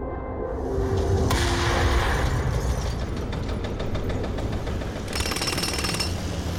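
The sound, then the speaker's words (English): Loud, continuous construction racket during the redevelopment of downtown Hailey: a jackhammer rattling in rapid repeated bursts over rumbling machinery, including forklifts, and crashing rubble, with a brief metallic clatter near the end. No voices. “There were jackhammers and forklifts and rubble.”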